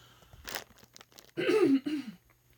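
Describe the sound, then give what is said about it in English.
A brief breathy cough, then a louder, rough, voiced cough followed quickly by a smaller one, heard alone without any talking. “Alright, I apologize for coughing in your ear.”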